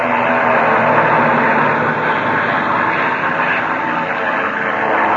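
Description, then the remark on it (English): An airplane engine roars loudly and without a break, a dense, rushing drone as the plane dives at a fire on the ground and then zooms back up. No one speaks. “Plane to the bottom of its dive, and now it's zooming up.”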